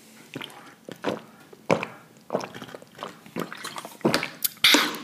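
Drinking water: a run of about eight wet gulps and swallows in an uneven rhythm, fairly loud, with a few lip and throat noises and no talking.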